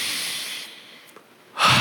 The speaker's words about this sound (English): Breath. I don't really think about breathing, do you? It's just kind of a reflexive thing. We just... Let's do it together. Inhale and exhale. Inhale.